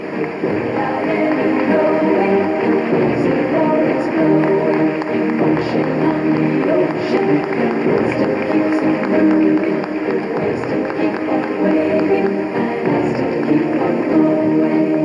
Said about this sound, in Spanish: Tienen mucho que ver con este nuevo emprendimiento y vaya para ellos el reconocimiento del aplauso de todos nosotros, porque todos estamos junto a ellos. El aplauso, señoras, señores.